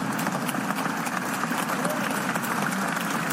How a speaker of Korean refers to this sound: 2017년 7월 미국 상원에서는 표결을 위해 입장하는 원로 의원에게 여야 의원들이 일제히 일어서서 박수를 보냈습니다.